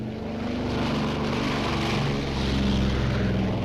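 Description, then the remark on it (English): A steady, droning propeller engine hums throughout, low and continuous with a slight rise near the end, from an airplane flying to Tehran, Iran, at sunset. “The plane is on its way to Tehran.”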